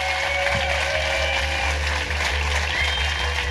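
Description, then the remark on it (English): A sustained wash of audience applause, steady and fairly loud for the whole stretch, with no voices breaking through the dense clapping. “give a massive round of applause to the amazing Jamie Dimitriou”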